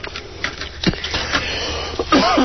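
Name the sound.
cough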